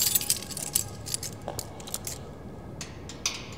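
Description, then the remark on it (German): Light metallic jingling and clicking as a key, a copy made from the original, rattles and scrapes in a door lock it does not seem to fit, with several short bright clinks scattered over a few seconds and no voices. “Ich glaube, der passt hier nicht, der Schlüssel.”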